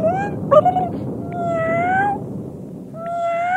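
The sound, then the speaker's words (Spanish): A family of cats meow in overlapping, drawn-out calls, fairly loud, with one short sharp cry early on and long wavering meows following one after another. No talking. “¿Qué tiene que ver una familia de gatos en todo esto?”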